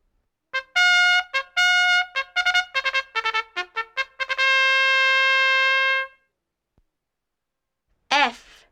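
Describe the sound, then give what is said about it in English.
A trumpet plays a quick series of short, bright staccato notes, then holds one long, loud sustained tone, followed by a pause and a brief unrelated sound at the end. “Trumpet.”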